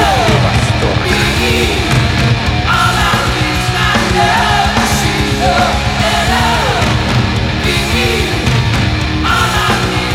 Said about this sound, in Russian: Я скачу. По комнате. По комнате. И издаю вопли восторга.